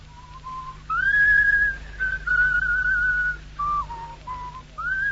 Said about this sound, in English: Hey, what do you want to whistle that a tune for?